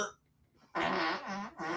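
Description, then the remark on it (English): A loud fart, buzzy and wavering in pitch, lasting about a second with a brief break before a final burst, following a moment of near silence. “Except that last one wasn't a fart, though. No, this is the last one.”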